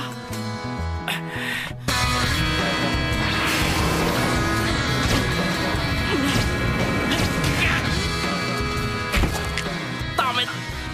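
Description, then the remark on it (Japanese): Rapid boxing punches, including uppercuts and hooks, smack and thud one after another during boxing training, loud, layered over a dense, continuous musical backdrop with occasional vocal effort sounds. “アッパ ー、いつ来るかわからないフックにいつでも反応できるよう、これからは違うパンチも混ぜるからな。”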